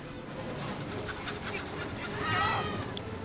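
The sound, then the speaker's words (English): Chickens on top of a bus cluck and squawk in a busy, steady flurry of short calls, with a brief louder burst of agitated clucking near the end and a rumbling background underneath. “but we decided that was too silly, so instead we had him fall on top of a bus with chickens.”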